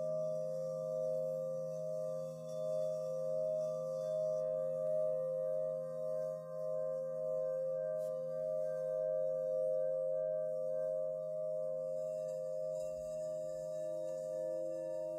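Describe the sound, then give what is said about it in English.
A meditation bell rings out in a long, steady tone, its pure mid-pitched hum and softer overtones holding unbroken for the whole stretch with no voices over it. “Not getting caught up in a story about what kind of bell or sound you're hearing.”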